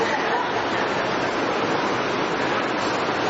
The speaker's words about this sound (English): Are you going to go turn the water off for me?